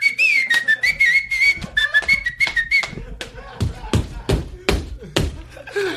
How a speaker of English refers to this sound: I'm whistling to get the fucking... I'm pumping the crowd up! I'm in the middle of a bit!